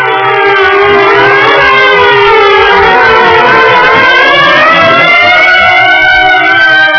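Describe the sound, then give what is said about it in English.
Several sirens wail loudly and continuously, their rising and falling tones overlapping, with a low rumbling hum underneath throughout. “At the sound of the sirens, Marv's huge boat quivered.”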